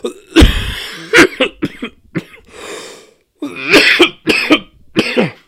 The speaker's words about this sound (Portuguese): Desculpa, gente, né? A gente vai tossindo, mas é normal, essa alergia aperta.